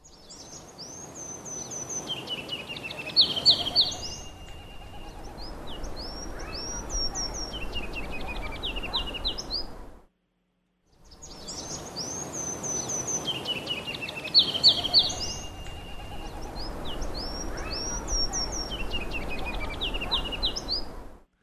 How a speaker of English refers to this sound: We're going to listen to the ruby-crowned kinglet. Okay. Let me get it going here.